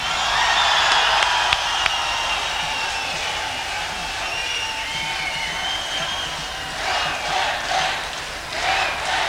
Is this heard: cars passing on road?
no